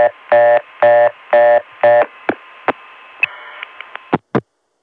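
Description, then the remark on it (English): After 49 seconds of reorder tone, four short, evenly spaced buzzy telephone tone bursts over a hissing line, then a string of sharp clicks and pops as the trunk disconnects and the line falls silent, because the originating register times out and the Dimension system signals the ContelNet network, which hangs up. “But the dimension catches that and sends a signal back to the ContelNet, which hangs up on us.”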